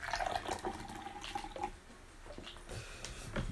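A drink is cracked open and poured, a steady splash and gurgle of liquid filling a container for a few seconds, with no one talking.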